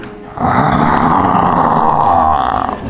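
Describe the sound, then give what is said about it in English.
A man's voice imitates a lion's roar, a sustained, rough, throaty growl held for about two and a half seconds at moderate volume, with no other talking. “I will do it softly, like a wild lion.”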